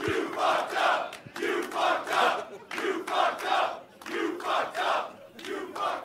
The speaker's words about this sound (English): Aer Lingus fucked up. Aer Lingus fucked up. I've got to tell you, that after hearing a crowd full of people shout, "You fucked up," at someone when they make a mistake.